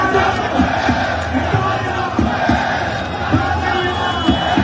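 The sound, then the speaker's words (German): A loud crowd of an estimated 30,000 Syrians roars continuously at a street demonstration marching from the Opera along the Ring to Parliament, celebrating the end of the dictatorship, with massed shouting voices and sharp bursts of cheering and chanting over a dense, steady wall of noise; people set off firecrackers and fireworks. “Die Demo war friedlich, aber laut.”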